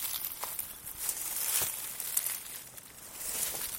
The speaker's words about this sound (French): C'est quoi comme son ? Bah, c'est le son quand tu écrases des feuilles dures.